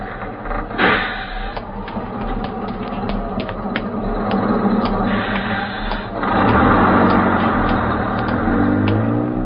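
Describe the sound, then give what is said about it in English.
A large bus's engine rumbles steadily, with clanks and rattles over it; partway through the motor's pitch shifts and swells as the bus pulls in at a deserted stop on a lonely, windswept night shortly after 2 a.m. “it happened shortly after 2:03 a.m., one lonely, windswept night, when a girl, a blonde girl, alighted from a bus at a deserted stop.”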